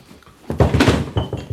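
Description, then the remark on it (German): A chair is cleared off and set down for a visitor, a short burst of wooden knocks and thuds followed by a lighter bump a moment later. “Ich mache Ihnen einen Stuhl frei.”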